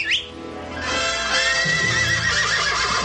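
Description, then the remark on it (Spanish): A horse lets out a loud, drawn-out whinny lasting a couple of seconds, its quavering cry sustained over a brief patter of hooves at the start, with no voices. “Ni aún mi padre reconocería este caballo.”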